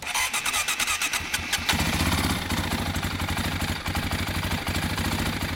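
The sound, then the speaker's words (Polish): An old Honda XL motorcycle engine cranks with rapid clattering pulses, then catches and settles into a steady, loud rumbling idle with no voices. “O, widzi pan, tu stoją trzy Hondy XL. I to są stare motocykle, ale bardzo trwałe, solidne.”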